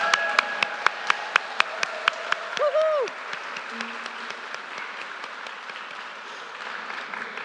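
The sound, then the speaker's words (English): A crowd applauds steadily for someone who has been asked to stand. Sharp claps stand out near the start, and a single cheering voice rises briefly before the clapping thins into a softer, sustained patter. “How about if you stand and we give you a round of applause?”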